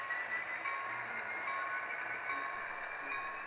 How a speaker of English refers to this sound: That's Alan Vincent running model trains with the Thunderbird Model Railroad Club.